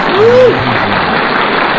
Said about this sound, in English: Oh, thanks for the applause. Thank you. Our studio audience loves it.